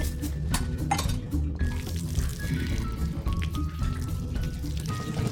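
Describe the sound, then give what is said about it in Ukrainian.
Water from a shower sprays and splashes steadily in a bathroom as children bathe Paddington the bear, with scattered drips and light clinks mixed in, fairly loud throughout without any voices. “Діти купають Падінгтона, поливаючи із душа.”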